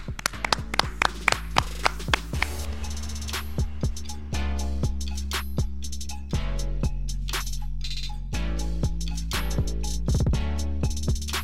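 Sharp hand claps ring out in a quick, uneven rhythm, layered over a steady musical backing with sustained tones; fairly loud, with no talking.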